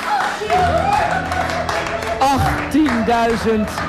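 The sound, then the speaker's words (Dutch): A crowd applauds steadily throughout, a dense wash of clapping with voices cheering and whooping over it, the noise staying loud and busy from start to finish. “Applaus, ja.”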